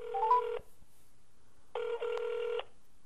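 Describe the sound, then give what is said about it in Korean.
A phone handset rings back in two long electronic bursts separated by a pause, with a brief rising dial-tone chirp at the start, as a North Korean defector calls his wife, who has already left for work; clear, no voices. “텔레비전을 보다가 먼저 출근한 부인에게 전화를 합니다.”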